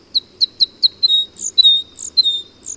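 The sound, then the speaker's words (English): Crossbill calls: a quick series of sharp, high chip notes, about five evenly spaced, then a fuller run of buzzy, trilling chatter, loud and clear over a faint low rumble. “North America's two crossbill species, white-winged and red, are vagabonds, wandering in flocks until they find a suitable cone crop, where they might then stop to breed in small groups almost any time of year.”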